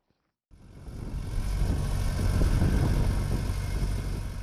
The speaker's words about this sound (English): At Mugutu Farm, about 40 kilometers north of Harare, a tractor tills land ahead of the rainy season expected anytime now.